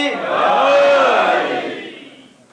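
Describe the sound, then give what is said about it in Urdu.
A large crowd shouts the religious slogan 'Naara-e-Haidari' in unison, called for again to be shouted louder. It is one long, loud collective cry whose pitch swells upward and then falls away as the voices trail off. “نعرہ حیدری کا موڈ ہے, نعرہ حیدری لگائیں, نعرہ حیدری, ایک دفعہ لگا, نعرہ حیدری, دو دفعہ لگا لیا, ایک دفعہ اور لگائیں, ایک دفعہ اور لگائیں زور سے, نعرہ حیدری.”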